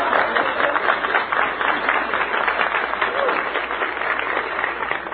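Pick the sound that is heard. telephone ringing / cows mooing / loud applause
loud applause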